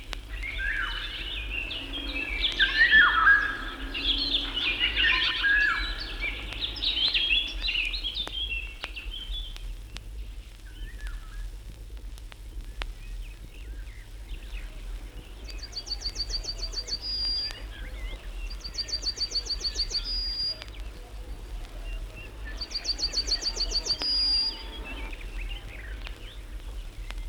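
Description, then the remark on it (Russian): Fluty, whistling Eurasian golden oriole song rings out in the opening seconds, followed by three evenly spaced bursts of high, rapid chirping over a low, steady background hum. “В лесу Иволгу трудно увидеть, она хоронится в вершинах деревьев.”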